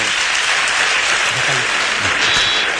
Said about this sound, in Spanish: El aplauso para él, para el esfuerzo de todo el equipo.